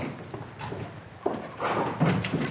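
A sharp click, then a rattling scrape as a door is pushed open, with a few soft knocks and footsteps close by and quiet background noise.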